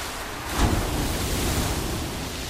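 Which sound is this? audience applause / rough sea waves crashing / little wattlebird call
rough sea waves crashing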